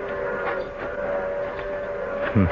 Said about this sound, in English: The train's coming. We gotta get on it and get out of here.